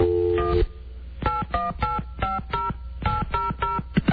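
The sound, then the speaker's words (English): A phone number being dialed with touch tones to call a celebrity: a longer tone first, then a quick series of short, evenly spaced dual-tone beeps in two bursts, clear. “has the phone number of Patricia Arquette. Okay. And we're going to call her now.”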